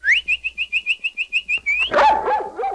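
A small dog barks in a quick, steady run of about a dozen high-pitched yaps, ending in a louder, rougher bark with a whining tail, with no talking.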